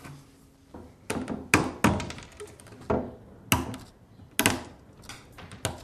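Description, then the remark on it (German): A hammer falls from a person's hand and hits a hard surface with a dull thunk while a guitar is being smashed, among a series of irregular knocks and clattering impacts, fairly loud, with no talking. “Oh, jetzt ist der Hammer aus der Hand gefallen.”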